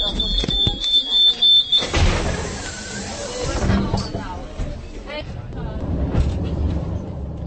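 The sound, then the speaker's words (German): A steady high warning tone sounds for about two seconds, then the doors of the Petřín hill funicular car in Prague slide shut with a broad rumbling whoosh before it glides uphill, with faint voices murmuring in the background. “Die Türen zu und schon gleitet man hoch auf den Laurentiiberg.”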